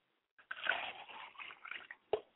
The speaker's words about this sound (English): we step over to the talking cure room to honor them, and in their deceased absence, we pour a glass of water, libation.